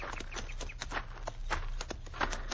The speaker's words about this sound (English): Get down off your horse, senor. All right. We lead our horses over onto that flat. Where they'll be in the shade. Come on, Diablo.